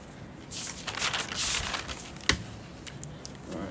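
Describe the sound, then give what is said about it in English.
A lot of paper sheets rustle and crinkle during a meeting in a steady stream of dry, papery shuffling, with one sharper snap partway through and no voices. “It's just a lot of paper.”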